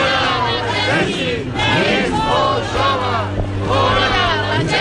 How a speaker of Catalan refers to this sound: Un grup de persones ha protestat aquest migdia davant l'estat militar amb crits i pancartes.